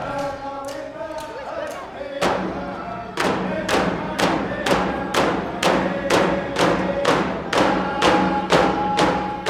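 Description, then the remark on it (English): A man on stage strikes his own drum in a steady, even beat, loud, while singing along with a group of voices as dancers perform; the rhythm and singing swell in strength after the first few seconds as he joins them. “He's now drumming and singing.”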